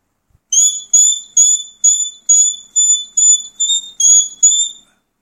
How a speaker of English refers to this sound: Now the walk-up whistle, which is the pips.